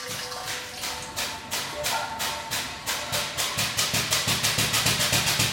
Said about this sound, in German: Extra für das Plastrack-Projekt konstruiert, um die kleinsten Plastikteile im Meer, das Nanoplastik, aus dem Meerwasser filtrieren zu können. Stefan Dittmar füllt zu Demonstrationszwecken Wasser in eine druckluftbetriebene Pumpe.